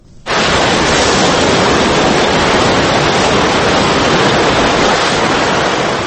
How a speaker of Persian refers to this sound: تصاویر تلویزیونی خانه‌ها و خودروهایی را نشان می‌دهند که همچون اسباب بازی با جریان تند آب جابجا می‌شوند.